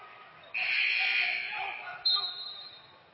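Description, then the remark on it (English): A referee's whistle at a basketball game shrills in a long, steady blast over crowd noise, followed by a second, higher-pitched toot that fades out. “And now a whistle and...”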